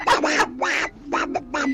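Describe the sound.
A radio listener mimics a duck, giving a quick run of about six nasal, buzzy quacks in an uneven rhythm, fairly loud with no other sounds around them.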